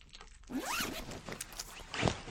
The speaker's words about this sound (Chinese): 两个人竟同时把对方靴筒的拉链一拉，把黑色皮靴脱下扔到一边